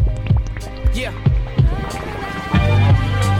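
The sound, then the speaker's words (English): Deep, throbbing bass thumps pulse like a heartbeat, a handful of heavy low beats landing loud over a bed of music while a man speaks briefly. “you know what that sound like? Feel the heartbeat. Feel the heartbeat on your eardrum.”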